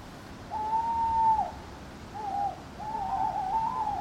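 An owl hoots three times: a long, steady call, a short one, then a longer wavering hoot. The calls are fairly clear and sound alone against a soft, hissy background.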